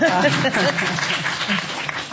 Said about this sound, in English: Thank you. Yeah, I want to clap for that.